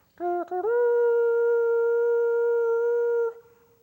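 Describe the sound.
A voice imitates the blast of a shofar, a ram's horn: a couple of short sputtering bursts, then one long, steady, brassy tone held for nearly three seconds before cutting off. Loud, harmonic-rich and alone.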